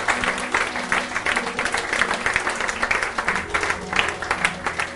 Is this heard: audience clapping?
yes